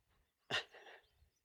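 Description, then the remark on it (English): A single sharp sneeze bursts out, followed by a brief breathy trail, with quiet low rumbling before and after and no talking. “There's lots of sneezing now.”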